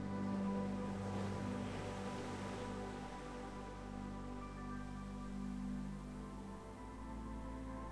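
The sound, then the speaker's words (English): Soft ocean waves break gently on a beach shore in a steady, low rush with gentle swells, blended under a sustained, humming ambient drone; quiet and continuous, with no voices. “Listen to the relaxing sound of the ocean. Its waves are breaking gently on the shore.”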